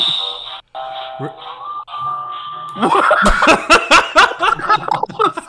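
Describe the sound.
A phone ringtone plays as steady, sustained electronic tones for a few seconds, then gives way to lively, choppy voices with laughter-like bursts.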